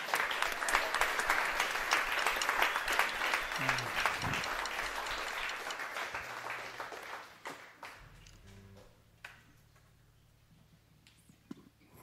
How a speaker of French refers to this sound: Amen, on peut applaudir notre Seigneur encore.